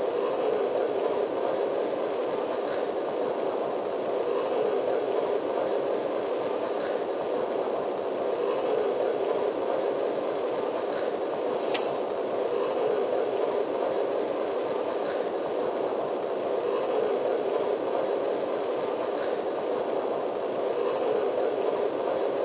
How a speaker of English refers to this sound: Now departing for San Francisco on track 1, train number 99. Coast Daylight.